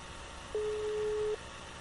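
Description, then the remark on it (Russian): A single steady telephone line tone of an unanswered call sounds for just under a second, a clear mid-pitched hum against faint background hiss, with no voice answering. “Вот мне даже отсюда слышно гудок. Вот. Никакого ответа.”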